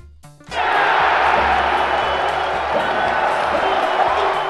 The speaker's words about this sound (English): Celtics fans had plenty to cheer about last night. Boston beat the LA Lakers 98-88 in Game 1 of the NBA Finals.